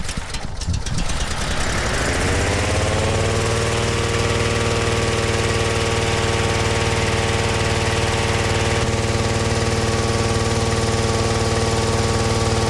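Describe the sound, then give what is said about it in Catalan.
A hot air balloon's engine revs up over the first couple of seconds as the balloon begins to inflate, then settles into a steady, droning hum with a strong low rumble that continues without pause, with no talking. “Molt bé, ara m'he fet una mica en fora perquè aquest renou és el motor una vegada que se comença a inflar el globo.”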